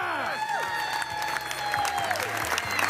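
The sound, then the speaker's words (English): A crowd at the 2012 International Pizza Expo in Las Vegas cheers and applauds steadily as a contestant shakes hands with a panel of judges, dense clapping under rising and falling whoops and shouts, loud and continuous throughout. “A video recording from the event shows a crowd cheering as a contestant shakes hands with a panel of judges.”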